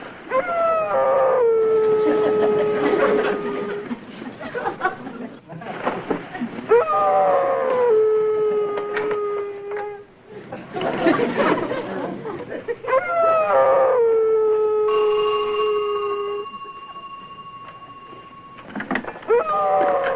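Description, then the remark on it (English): A dog downstairs howls repeatedly in long, drawn-out wails with falling pitch, several mournful howls in a row separated by brief pauses, loud, with a high whine joining near the end. “you've got to go downstairs and do something about that dog.”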